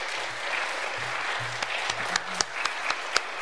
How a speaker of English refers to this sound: So I know you're tired of clapping, but I'm going to ask all of you that performed tonight, if you just stand up one more time, turn around, let us give you one more big round of applause.